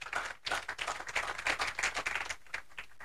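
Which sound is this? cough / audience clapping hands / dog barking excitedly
audience clapping hands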